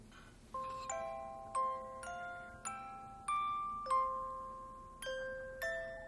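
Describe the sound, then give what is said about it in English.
An ornate antique silver jewelry box, its lid opened, plays a slow, gentle music box melody, its bright plucked metal notes tinkling out one by one and lingering over a soft background hiss. “She pulls out an ornate antique silver jewelry box and opens the lid.”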